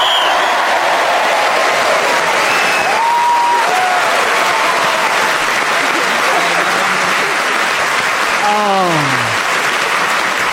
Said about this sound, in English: Well, a tremendous round of applause